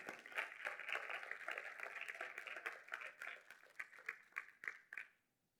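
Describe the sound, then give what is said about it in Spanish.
An audience bursts into sustained applause for the Lord during a church service, a dense wash of many hands clapping together that thins into a few scattered, louder claps before fading to silence. “Démele un aplauso al Señor, claro que sí.”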